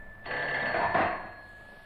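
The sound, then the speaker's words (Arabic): A telephone bell rings in one sustained burst lasting well over a second, bright, then cuts off into quiet. No one is speaking. “من على الهاتف يا ترى؟”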